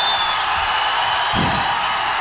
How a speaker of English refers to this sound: Ready? Okay, everybody start cheering, go ahead.